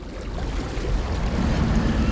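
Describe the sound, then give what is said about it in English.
Rough water in the center of a lake churns madly, rushing and sloshing steadily, a dense rumbling wash with a windy hiss, fairly loud without letup. “The air was completely still, but the water in the center was churning madly as if swept up in a storm.”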